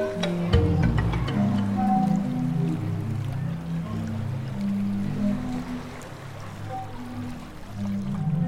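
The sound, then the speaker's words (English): Low, breathy organ-like tones swell and overlap irregularly as waves push through pipes beneath stone steps, with steady sloshing water throughout and no voices. “It was fascinating to listen to the sound coming from beneath and between the stairs leading down to the water.”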